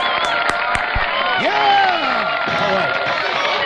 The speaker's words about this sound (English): Ladies and gentlemen, would you please bring on, with a warm round of applause, Edward Van Helsing.